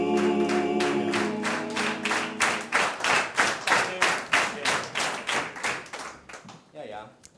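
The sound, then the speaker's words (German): Steady hand claps keep a song's beat, about twenty crisp claps in an even rhythm, with a sustained voice-like tone beneath them early on that fades as the clapping continues. “Klatschen ist leicht, aber singen Sie mal mit dem Mund voll Watte.”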